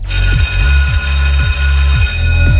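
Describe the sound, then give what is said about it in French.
A school bell rings continuously and loudly for the whole stretch, marking the end of recess and time to return to class, a bright sustained metallic tone over a steady low pulsing rattle, with no voices. “Et oui, vous l'entendez, cette sonnerie. Et oui, c'est l'heure de rentrer dans les petites classes.”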